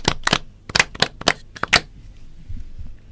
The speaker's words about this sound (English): Please, let's clap